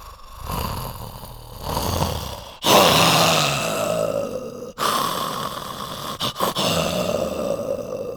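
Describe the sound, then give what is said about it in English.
Puppeteers voice a tiger puppet named Richard Parker, breathing for it, with heavy rasping breaths rolling into low growls and snarls, loud, in a few long phrases broken by brief pauses. “talked about how they literally breathe life into them, breathing for them.”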